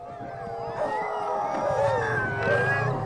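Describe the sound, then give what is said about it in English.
A chorus of sled dogs howls together in Tocotna during the mushers' mandatory 24-hour rest in the Iditarod Trail Sled Dog Race: one line of dogs starts and another continues, long wavering cries overlapping and rising at staggered moments, steady over a low background rumble. “One line of dogs began howling, then another continued the sound, singing a sort of sled dog round.”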